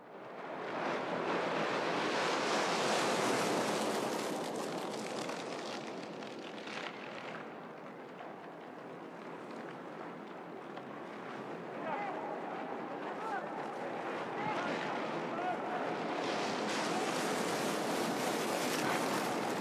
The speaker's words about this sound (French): On entend le bruit de la mer, on entend le bruit des vagues, mais ce n'est pas en fait le bruit des vagues, ce bruit qui lui ressemble tant, il est généré en fait par une marée d'objets.